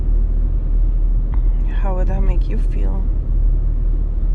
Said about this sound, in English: And then you recognize your father's car outside